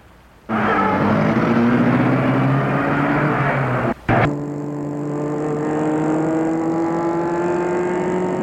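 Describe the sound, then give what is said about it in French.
A driver starts a car: the engine abruptly kicks into life and revs, its pitch climbing as it pulls away, then settles into a steady rumbling drone with a brief break midway. “Et le chauffeur met la voiture en route.”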